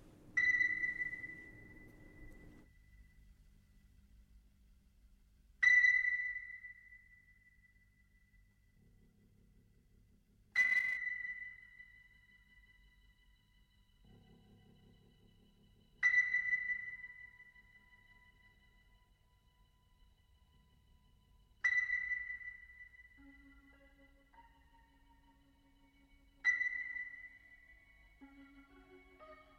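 A rock song opens with a single high, sonar-like ping struck about every five seconds, each ringing out and fading, with faint low tones drifting underneath and no voices.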